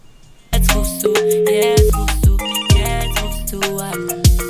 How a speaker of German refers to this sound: Das Telefon klingelt